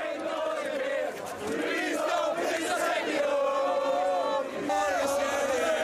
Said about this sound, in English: Singing and dancing and cheering. Well, those Welsh fans, they don't want to go home. They're ready to party even after that loss to Portugal.